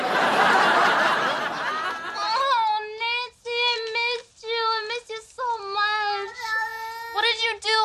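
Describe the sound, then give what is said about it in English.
A burst of rough noise gives way to a cat named Jinxie, also called Nancy, meowing repeatedly, a run of drawn-out, wavering, whiny cries that are fairly loud, with brief pauses between them. “I went to their apartment and I said, you don't love that cat.”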